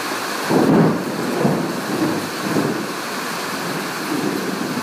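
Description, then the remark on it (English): Low, rolling thunder rumbles in a few swells beneath a steady, dense hiss of heavy rain pattering on a corrugated iron roof in Shah Alam, Malaysia, with no voices. “There's been lightning and thunder a couple of minutes ago.”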